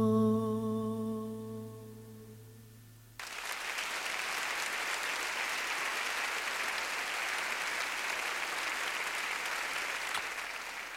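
A sustained, dense burst of audience applause erupts abruptly as a held musical chord ends, the clapping staying loud and steady for several seconds.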